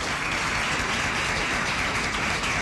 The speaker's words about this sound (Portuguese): Nesse ponto, então, uma salva de palmas para o aniversariante